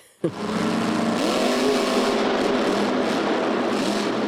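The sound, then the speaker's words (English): A powerful Monster Jam monster truck engine bursts to life suddenly and roars continuously, its pitch rising as it revs, loud with no voices. “Okay, let's move now to trucks that are really loud.”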